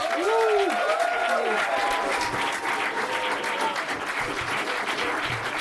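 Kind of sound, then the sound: crowd, warm audience applause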